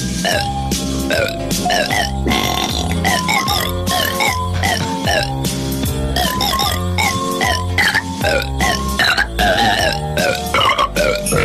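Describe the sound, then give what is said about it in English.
A rapid series of loud burps strung together in a rhythmic, melodic pattern, belching out Christmas classics for a mock holiday album billed as Oprah Winfrey burping them, continuous for about eleven seconds. “Oprah Winfrey burps the Christmas classics.”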